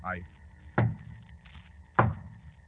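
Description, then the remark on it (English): Two loud, solid knocks on a door at midnight, a signal in the Sherlock Holmes story The Adventure of the Bruce Partington Plans, spaced a little over a second apart, each a sharp thud with a deep body, over a faint low background murmur. “Two knocks on the door.”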